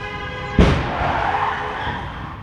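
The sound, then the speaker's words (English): A car's tires squeal in a high, steady whine, then a sudden loud crash cuts in, followed by a rumbling, noisy aftermath of scraping and debris that slowly fades. Recorded at a house on April 9, 2017. “Another car crash from the same location on April 9, 2017.”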